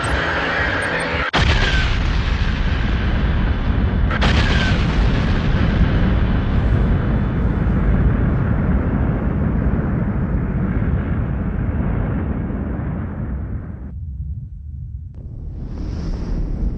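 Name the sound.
supernova explosion sound effect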